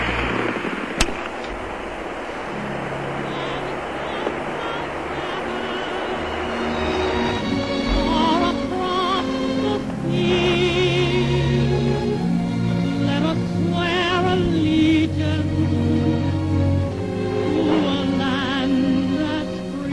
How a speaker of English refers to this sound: You can hear, of course, the lightning and static in the background.